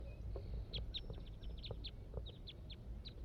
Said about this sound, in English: More wild birds are coming in now. Song from the wild bird.